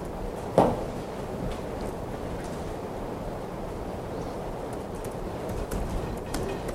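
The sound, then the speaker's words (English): Rain falling in a steady, even hiss that fills the whole clip, with a single sharp knock near the start and no voices. “Good to hear the rain.”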